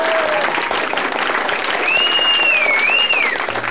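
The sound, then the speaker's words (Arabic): Loud, enthusiastic applause from a large theatre audience after a song in a play fills the whole stretch as a dense, steady roar of clapping, with a bright whistle-like tone rising and falling partway through. “ولما انتهى صمت الجميع قليلاً، ثم صفقوا جميعاً بحماس.”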